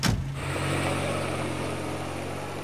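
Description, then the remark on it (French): A car engine idles steadily, a low constant hum with a brief louder burst at the very start, continuing evenly without any voices; the car Lupin stops at the top of rue Raynouard before giving the driver an address. “Puis, il arrête une voiture et donne une adresse au chauffeur.”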